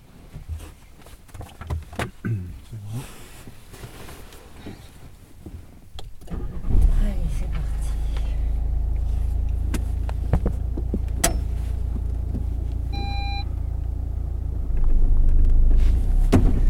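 Inside a driving school car during a driving lesson, heard from the back seat, a few clicks and rustles give way to the engine starting and settling into a steady low rumble, with a brief electronic chime near the end and no talking.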